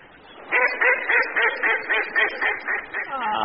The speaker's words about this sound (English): Oh, the ducks are not happy.